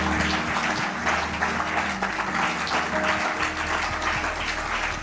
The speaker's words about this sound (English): Clap your hands.